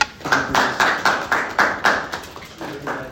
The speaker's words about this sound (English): Oh, hold on. I got to gavel it. There we go.